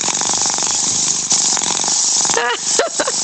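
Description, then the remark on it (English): A pet cat named Charlie purrs loudly, a steady rough rumble of rapid pulses, before a couple of brief higher vocal sounds break in near the end. “What, purring? Here's my late cat, Charlie.”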